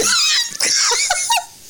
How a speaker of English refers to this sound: There was a kitten on my shoulder